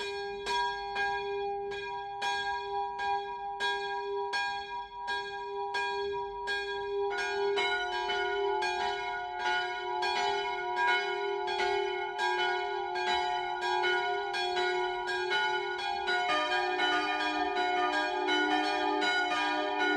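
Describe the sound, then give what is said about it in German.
Church bells of the Evangelical Lutheran St. Johanneskirche in Hirscheid, Upper Franconia, in the district of Bamberg, ring a midday peal at 12 o'clock, steady overlapping strikes with rich ringing overtones; a second, higher bell joins partway through, thickening the continuous loud pealing. No voices are heard. “Das Mittagsläuten kommt heute von der evangelisch-lutherischen St. Johanneskirche im oberfränkischen Hirscheid.”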